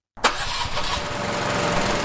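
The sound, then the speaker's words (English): A London Fire Brigade all-terrain vehicle used for fighting wildfires catches after a short silence with a sharp burst, then settles into a steady, loud, rumbling idle with a low pulsing throb. No one speaks. “The idea is that this vehicle doesn't leave the job when there's a wildfire happening.”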